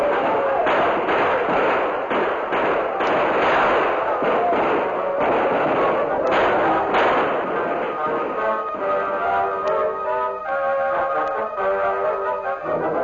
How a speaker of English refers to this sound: Then a welcome sound was heard. Tom Fuller, leading about 30 men, galloped into the village with guns barking.